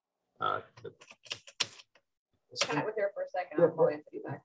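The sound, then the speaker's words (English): A few sharp, separate clicks of computer keys tap out in a short irregular burst as someone tries to advance the screens, with people talking before and after. “Yeah, the screens are not, they're not, usually just clicking, shifting.”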